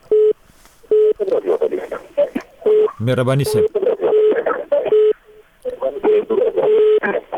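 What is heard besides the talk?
telephone call connecting tones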